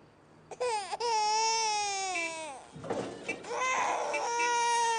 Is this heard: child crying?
yes